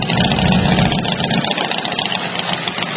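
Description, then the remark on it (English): Motorcycle engines at the annual Sturgis Motorcycle Rally in rural South Dakota rumble loudly and steadily at idle, a dense, continuous throb with slight swells as throttles rise and fall; no voices. “The annual Sturgis Motorcycle Rally is kicking off today, despite the pandemic, in rural South Dakota.”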